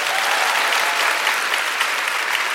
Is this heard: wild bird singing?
no